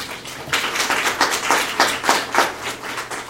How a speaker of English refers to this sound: The applause reminds me that applause at the beginning of a talk is faith, and applause in the middle is hope, and applause at the end is charity.